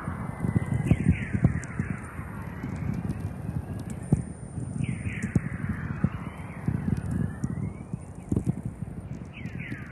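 Three dispersed radio pops, each a whistling tone sliding quickly from high to low pitch, recur every few seconds over a steady bed of crackling, hissing static.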